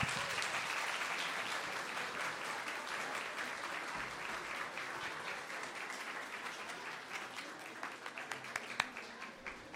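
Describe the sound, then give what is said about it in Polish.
Sustained applause from an audience for a performance by young children, a dense wash of many hands clapping at steady loudness for about ten seconds, tapering slightly toward the end with a few sharper individual claps. “Brawo, brawo dla naszych maluchów.”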